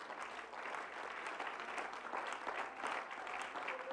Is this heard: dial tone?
no